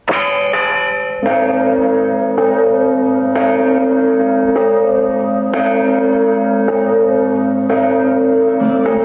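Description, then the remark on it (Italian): A large tower bell strikes the hours, about once a second, nine times, each deep clang ringing on and overlapping the next in a loud, steady, resonant peal with no voices. “Noi qua sulla torre che avemo bonoccio in mano ogni modo potente un batoccio per battere le ore e battere il ciodo de certi argomenti.”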